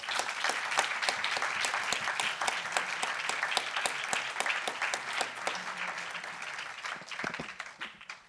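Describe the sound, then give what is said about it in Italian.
An audience at a Politecnico event applauds steadily, many hands clapping in a dense, crackling wash that holds fairly even in loudness for several seconds before tapering off at the end. “Un applauso.”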